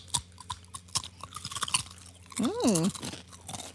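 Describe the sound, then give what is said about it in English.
Crisp crunching of a Flaming Hot Dorito tortilla chip being bitten and chewed, several sharp crackles over the first two seconds, followed by a short hummed vocal sound that rises and falls. “My crunch wasn't good.”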